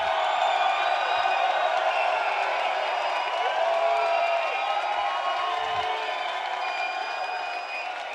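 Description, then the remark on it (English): An audience at the end of a performer's set cheers and applauds continuously, a dense wash of clapping, whoops and shouting voices that stays loud throughout, easing only slightly toward the end. “Make some noise for yourself.”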